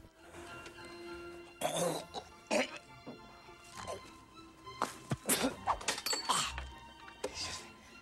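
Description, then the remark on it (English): A man choking on a pencil he has shoved in his mouth during an exam: a series of harsh, choking coughs and throat-clearing sputters in irregular bursts, loud and gaspy, with brief wheezy pauses between them and a thump partway through. “He shoves his pencil in his mouth, then chokes on it.”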